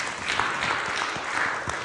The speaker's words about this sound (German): Halleluja, ja, dieser Applaus gehört definitiv Gott, weil Gott ist gut und Gott ist groß.